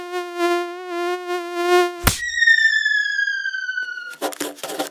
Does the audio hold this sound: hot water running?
no